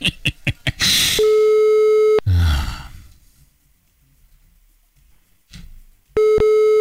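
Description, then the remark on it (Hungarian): A few quick clicks, then a steady electronic ringing tone of a call to a radio show's listener of the day sounds, stops, and after a sigh and a long silence begins again, unanswered. No one speaks. “Például a nap hallgatójának is van vaj, mert nem veszi föl.”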